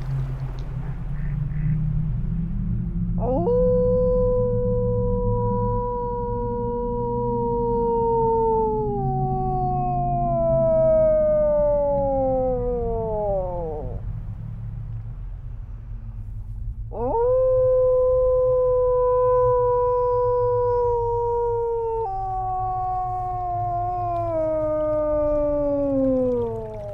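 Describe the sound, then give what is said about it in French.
A person howls like a wolf, two long sustained howls that rise, hold, then slowly sag in pitch, with a pause between them, over a steady low background rumble. “Je vais faire le premier tout seul”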